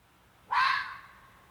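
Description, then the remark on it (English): A single harsh, raspy fox bark rings out against a quiet background, sharp at the start and trailing off over about half a second. No one speaks. “That's more like a bark.”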